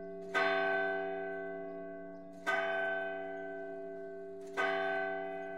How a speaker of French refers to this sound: À l'aube, les gens ont été réveillés par le son des cloches. C'était le matin du 8 décembre, un matin gris. Le carillon avait commencé par la grande cloche, puis les autres ont suivi.